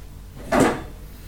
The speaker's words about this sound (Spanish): Ay, voy a tratar de no mover tanto por ahí la silla porque.